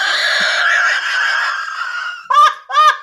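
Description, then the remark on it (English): A person's voice imitates an owl hoot, starting with a long, strained, drawn-out call and then two short, sharp whooping hoots, loud with no other talking. “That's an owl sound.”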